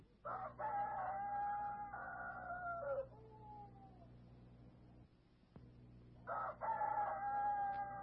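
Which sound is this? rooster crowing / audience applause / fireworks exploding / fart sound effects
rooster crowing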